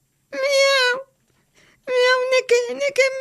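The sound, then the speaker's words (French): A human voice imitates a cat's meow with one drawn-out, high, nasal call, then after a short pause a person starts talking. “Miaou! A respoun ar raz”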